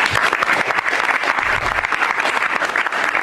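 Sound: applause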